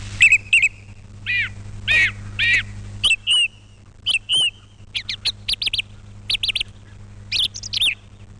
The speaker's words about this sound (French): La grive répète son son, répète son chant. Et évidemment, tout cela a un objectif très simple, réussir grâce à cela à marquer la zone où l'animal va établir son nid.